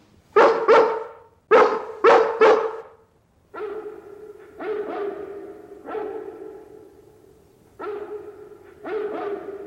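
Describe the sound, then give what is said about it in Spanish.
A Great Dane in Hampstead barks in reply in short bursts, first sharp paired woofs, then lower, longer drawn-out barks, loud with brief pauses between, no talking. “estamos de suerte. Es el gran danés de Hampstead.”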